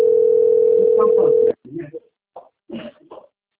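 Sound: telephone ringing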